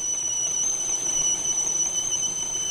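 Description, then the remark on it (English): A tea kettle whistles with a steady, shrill, high-pitched tone that holds unbroken for the whole stretch, riding over a soft airy hiss with no voices. “A similar phenomenon occurs in the spout of the tea kettle as the acoustic wave inside bounces back and forth at a higher rate.”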